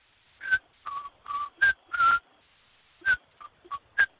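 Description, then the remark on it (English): A person whistles a short melody imitating a birdsong that resembles the first bars of Hansel's aria by Humperdinck: about nine clear, mid-to-high pitched notes in an uneven phrase with a brief pause before the last few, with no talking. “That's what the bird sings, and I've had the earworm forever, so I want to know what bird it is.”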